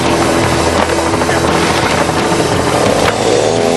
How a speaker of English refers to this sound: All right, chainsaw is starting, he's cutting.